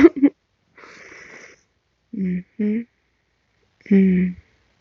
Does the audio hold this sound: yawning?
yes